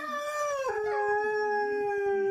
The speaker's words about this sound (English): Those hounds are baying. In the 14th century, barking hounds were said to be at bay.